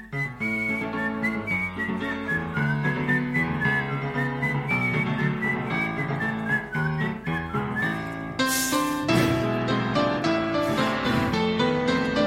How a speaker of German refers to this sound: Und ich muss die Melodie an dieser Stelle immer pfeifen.